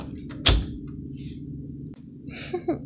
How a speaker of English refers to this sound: Yeah, I'm coming in. Let me close the door.